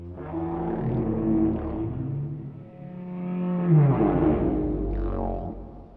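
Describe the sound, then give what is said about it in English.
Low, drawn-out whale calls moan and rise in pitch, overlapping in a continuous stretch, with a deep rumbling swell near the middle and a brief upward sweep toward the end. “new research allows scientists to help cut through that noise by training a machine learning model on unhindered whale calls and then slowly adding in common background noise.”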